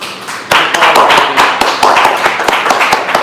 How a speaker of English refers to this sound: Applause.